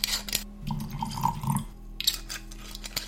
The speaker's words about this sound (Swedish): Jag lutar mig fram igen, häller upp lite mer whisky.